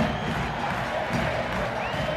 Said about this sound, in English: The crowd gets louder as the few players still left in the Chapecoense team walk around the pitch, arm in arm.